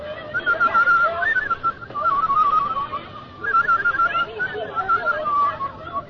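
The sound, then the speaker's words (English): Someone whistles a wavering tune in three short phrases separated by brief pauses, the pitch sliding and trilling with a thin, slightly breathy tone. “I hope I can still whistle.”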